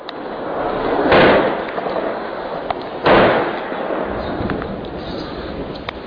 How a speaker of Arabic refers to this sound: مشاهد الكرام، نشاهد قصف عنيف على حي باب عمرو، وهذا هو اليوم يعني 25 للقصف على ذلك الحي الذي تقريبا طمست 80% من معالمه.